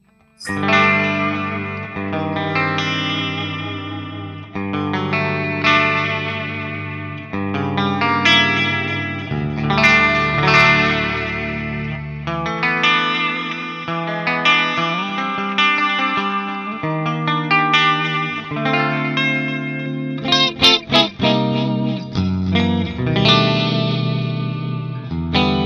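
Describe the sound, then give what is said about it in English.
A clean-toned electric guitar, played through an amp switched to its clean channel, plays sustained chords and melodic runs with a shimmery chorus-like effect, steady, with a few sharp strummed accents near the end and no talking. “Let me try here to go to a clean sound, switch the channel here.”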